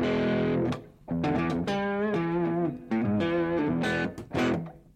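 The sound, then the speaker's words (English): Overdriven electric guitar through a tweed-style amp set for a Tweed Deluxe sound with the mid turned all the way down, playing raspy, gritty chords and sustained notes in short phrases, fairly loud with no talking. “Let's get that like tweed deluxe sound. Yeah. Yeah, it gets kind of raspy and stuff.”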